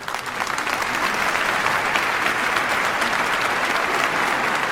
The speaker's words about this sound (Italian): Beh, signori, io farei partire un applauso.